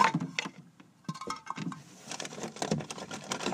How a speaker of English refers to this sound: I just dropped some pencils behind this desk here. So, yeah.